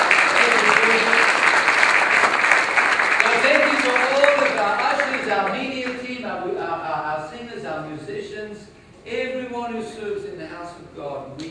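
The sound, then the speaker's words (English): A church audience claps loudly for the church volunteers and setup team in a dense, steady burst of applause for about five seconds, then the clapping thins out as a man's voice begins speaking over the last scattered claps. “Can you give them a big round of applause?”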